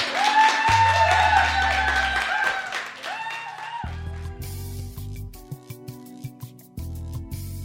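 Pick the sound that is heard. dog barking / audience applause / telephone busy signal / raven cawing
audience applause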